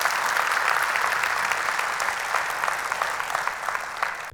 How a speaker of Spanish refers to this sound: Si Dios habló hoy, da un aplauso al Señor, que Él se lo merece. Amén.